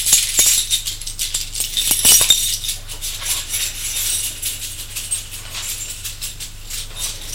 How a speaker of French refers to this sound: Prend de sa poche un trousseau de clés.